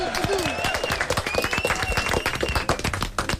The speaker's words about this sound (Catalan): Vinga, ho donarem per bo, un aplaudiment. Vinga.